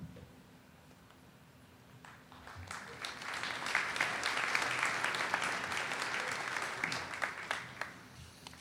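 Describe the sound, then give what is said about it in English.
An audience claps as Bishop Coyne is invited to speak at a Rice School event, starting sparse and quickly swelling into steady, dense applause that holds for several seconds before thinning slightly toward the end. No one speaks over it. “That certainly is a sign of faith that you're clapping before I even talked.”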